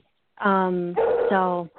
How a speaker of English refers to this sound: And it sounds like the dog's ready to go. Absolutely. Yeah, no, I know, right? Yeah, she's just like, hey, show me some attention because I just got back.